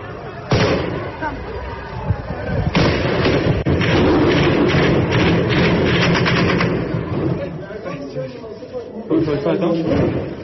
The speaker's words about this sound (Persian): اتفاقی که در تصاویر شبکه‌های اجتماعی در روز سه‌شنبه مشاهده می‌شد و با تیراندازی طالبان نیز همراه بود.